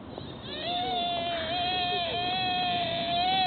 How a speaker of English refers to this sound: That's what a normal deer sounds like? Check that motherfucker's neck. Because there's no way a normal deer sounds like that. That's terrifying.